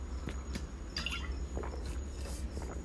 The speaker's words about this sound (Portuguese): E, pô, vou tomar uma água aqui.